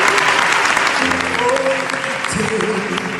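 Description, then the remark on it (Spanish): A studio audience at the Teatro de la Zarzuela in Madrid applauds steadily, a dense wash of clapping with cheering voices mixed in, holding a fairly even loudness for about three seconds. “Todo el estudio aplaudiendo.”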